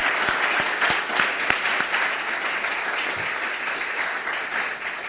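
An audience applauds steadily for about five seconds, a dense wash of many hands clapping, with a few sharper individual claps standing out early on before the sound evens out.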